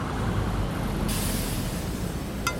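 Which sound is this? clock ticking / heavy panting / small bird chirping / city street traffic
city street traffic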